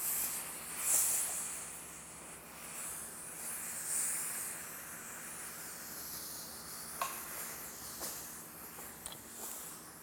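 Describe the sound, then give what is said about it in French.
A steady, moderately loud hiss from a steam iron blasting steam onto a fastened shirt to de-wrinkle it runs the whole time, with a few faint clicks and soft bumps near the end and no voices. “Tu prends ton fer et tu balances la vapeur dessus.”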